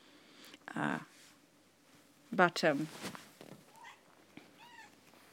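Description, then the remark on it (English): A cat meows twice, a short cry followed by a longer, wavering one, then makes a few softer, fainter chirping mews while rubbing up against a person, otherwise quiet. “Reality is a cat rubbing up against me. Cat, stop that.”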